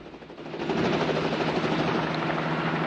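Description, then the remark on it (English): A helicopter hovers close by in front of two men who have climbed out of a jeep, its rotor thudding in a fast, steady rhythm over a loud, continuous engine roar that swells slightly in the first half-second and then holds level. “The chopper hovers in front of them.”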